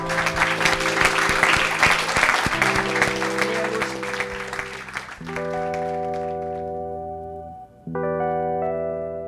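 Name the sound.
audience applause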